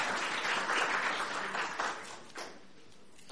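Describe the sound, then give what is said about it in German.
An audience applauds the music team with dense, steady clapping that holds strong for about two seconds, then thins and fades to a quieter patter by the end. “Und deswegen glaube ich, dürfen wir wirklich klatschen, dass heute so viele beim Musikteam sind.”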